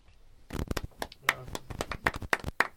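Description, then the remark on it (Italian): A few scattered, sharp hand claps ring out at irregular intervals, fairly loud, like a small group clapping briefly while people talk over them. “Grandi applausi.”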